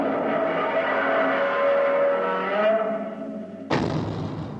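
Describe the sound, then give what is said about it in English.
Godzilla's roar: one long, loud, grinding screech held for several seconds with a harsh, layered tone, then cut off abruptly by a brief burst of rough noise. “That's the roar that Bill Tsutsui first heard when he was 8 years old, living in the tiny college town of Bryan, Texas.”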